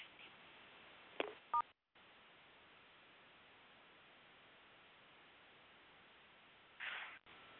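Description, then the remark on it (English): A couple of quick telephone keypad tones beep briefly over a steady hiss of line static, followed by a short dropout and then more even background noise with no talking. “So if you've got a question, so if you're talking into your phone and I can't hear you, that means now you got to hit *6 on your phone, and that'll bring you live on the line.”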